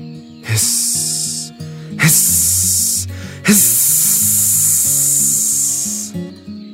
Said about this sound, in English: Hiss, hiss. Maybe it's a cat. Cats hiss, said James. It doesn't sound like a cat to me, said Nicola.